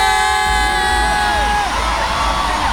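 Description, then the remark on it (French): Fans in the crowd at a pop concert roar steadily, with high whoops and shrill cheers rising and falling over a dense wall of shouting voices throughout. “On écoute la réaction des fans.”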